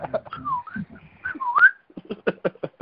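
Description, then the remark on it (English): Someone whistles a bird-like chirp: a few short warbling notes that end in a quick rising sweep. A run of short, choppy vocal bursts follows. “A little chirp.”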